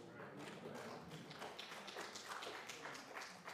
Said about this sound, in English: Softer claps, cool.